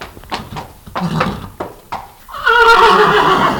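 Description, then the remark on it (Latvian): A horse lets out a loud whinny in the second half, preceded by a few sharp clip-clop hoof knocks and shuffling noises. “sirdsdarbība uzlabojas, kad jājot zirgu.”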